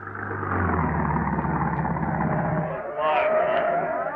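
A bus rumbles into the bus station at Wistful Vista at 3 a.m. with a low, steady engine drone that grows louder, then shifts to a higher whining tone as it slows to a stop.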